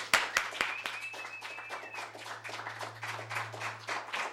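An audience applauds steadily for several seconds to welcome a musician, a dense patter of many hands, opening with a few sharp claps. A brief whistle rises over the crowd early on, and a low hum runs underneath.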